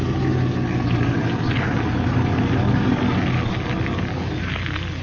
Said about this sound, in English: I'm going to run the car off the road into the bushes here so it can't be seen by anyone going by.